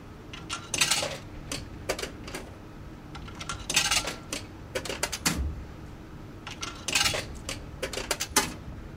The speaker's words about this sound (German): Zum Bezahlen werfe ich die Münzen in einen Schlitz im Automaten.